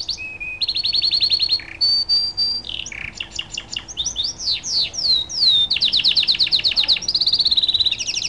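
A canary sings a long, varied song of rapid trills and high whistled phrases, the rolling tours following one after another without pause. Clear, no voices.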